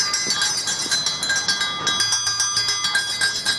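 A school bell rings steadily for several seconds at the opening of the Veliki školski čas peace commemoration at the memorial in Šumarice, in autumn, a bright metallic trill with a rapid, even pulse, fairly loud and heard alone without any voices.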